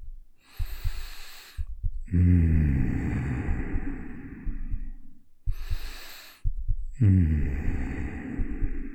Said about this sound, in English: I'm gonna let you lay here on my arm and just listen to that gentle heartbeat as I breathe.